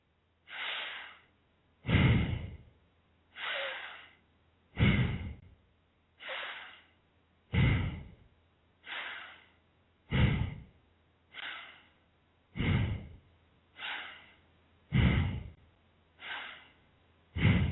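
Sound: long deep breathing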